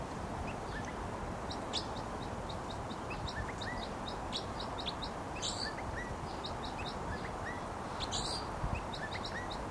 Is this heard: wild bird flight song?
yes